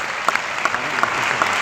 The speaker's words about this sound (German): Ja, jetzt kommt der Applaus im Saal.